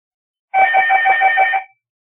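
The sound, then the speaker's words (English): A telephone rings once in a loud trill of rapidly pulsing bell tones lasting just over a second, then stops. No voices accompany it. “Now we're going to have the phone ringing.”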